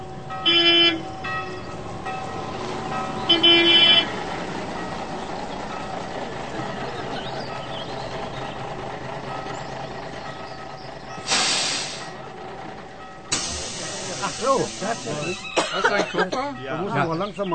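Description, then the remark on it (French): Inside a moving bus: a steady engine rumble with brief electronic beeps near the start, then two loud bursts of air hiss like doors opening, followed by clattering movement. “Imaginez la situation et écoutez ce qui se passe dans le bus.”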